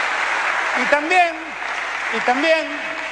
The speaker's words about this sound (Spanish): Y también, un aplauso para ella, ¿eh? Para ella que lo hizo.